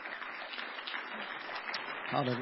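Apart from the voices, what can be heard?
audience clapping hands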